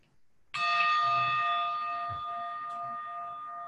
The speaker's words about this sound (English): Okay, so I'm just setting the gong here, which is gonna go off in a moment.